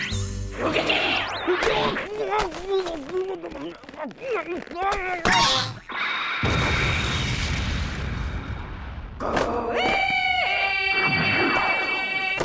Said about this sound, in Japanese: あ、ちなみに今のは飛び出す絵本怪獣と爆発ゲロッピだな。火薬の量に自信ありだそうだ。